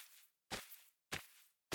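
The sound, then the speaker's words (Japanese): Footsteps walk at a slow, steady pace, three or four crisp heel strikes about half a second apart, fairly quiet, with a short ringing tail after each step and no voices, as someone walks up to a stone statue at a school. “とりあえず入って、石像に近づいてみよっか。”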